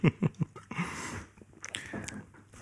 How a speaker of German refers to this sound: Lieber schmatzen als so.